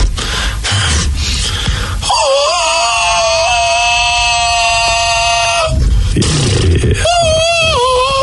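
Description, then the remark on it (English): A person loudly imitates a donkey's bray, alternating raspy, wheezing inhales with long, strained, nasal tones, repeated twice, with no other talking. “I thought there was a donkey in this room.”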